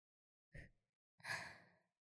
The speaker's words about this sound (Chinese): 总裁大人的呼吸声变得很沉重呢，声音也沙哑了起来呢。